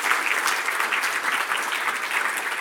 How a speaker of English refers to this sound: By the way, give my team a big hand clap.